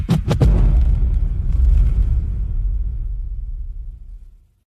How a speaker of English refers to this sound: Oh, yeah. You heard the intro. You heard the explosion at the end.